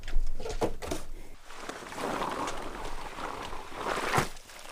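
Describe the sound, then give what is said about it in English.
Heavy, wet, slushy snow falling on Saturday night in Juneau, Alaska, splatters and sloshes as it hits the ground, a steady watery hiss broken by a few sharper splashes, with no voices. “It's the kind of snow you can hear hitting the ground with a splash.”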